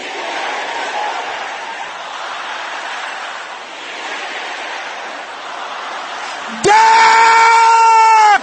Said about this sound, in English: This next prayer, it is important that you pray with boiling anger. Inherited darkness of my father's house. Inherited darkness of my mother's house. Can I hear you shouting those things?